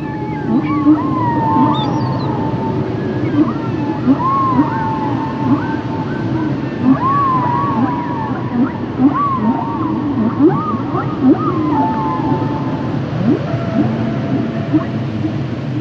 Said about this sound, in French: On se retrouve aujourd'hui pour parler d'un mammifère marin, la baleine! Mais pour commencer, écoutons-la d'abord chanter.